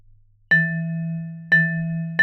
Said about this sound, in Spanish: Ahora te voy a poner frente a ti el xilófono. Pégale con la garrita. ¿Cómo? ¿Le voy pegando así?